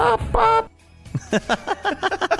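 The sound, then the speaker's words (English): A person imitates a chicken: two loud drawn-out squawks, a brief pause, then a quick rhythmic series of about eight short voiced clucks. “That's also you balking like a chicken.”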